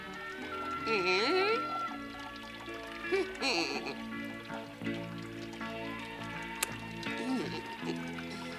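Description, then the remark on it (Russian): Spring water pours steadily from a spring into a kettle held under the stream for several seconds, a continuous splashing stream set beneath a tonal musical or vocal backdrop with a few brief drips and bursts. “Она подставила чайник под струю серебристой воды.”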